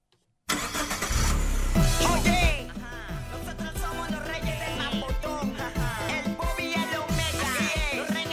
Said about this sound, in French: Bah, déjà, ça commence avec un bruit de moteur qui se met en route, quoi. Hop, on tourne la clé, c'est parti, mon kiki, quoi.